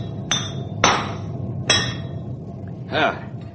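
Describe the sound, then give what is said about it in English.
A hammer strikes a king-size horseshoe for a big horse named Storm in three sharp, ringing metallic clanks at uneven intervals, followed by a softer, wavering clang, all over a steady low rumble. “This horse of yours takes a king-size shoe, man.”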